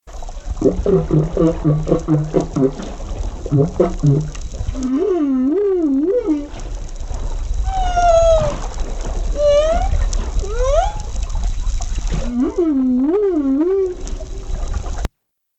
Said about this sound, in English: Now, marine mammals, our charismatic megafauna, produce a wide range of sounds. They have much more complex anatomy to help them do this. So here's an example of a humpback whale.